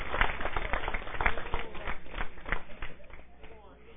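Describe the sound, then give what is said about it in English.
A crowd claps in praise, giving the Lord a hand clap of praise, sharp irregular hand claps blending into a dense burst of applause, with voices calling out through it and the clapping thinning toward the end. “Come on, somebody give the Lord a hand clap of praise in here.”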